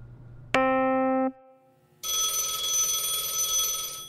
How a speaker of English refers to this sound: Phone's ringing again. You don't need to record everything. Just answer the damn phone.